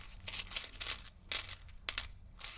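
coins clinking

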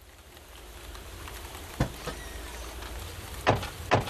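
rain falling

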